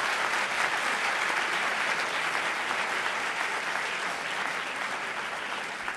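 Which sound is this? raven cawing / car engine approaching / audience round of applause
audience round of applause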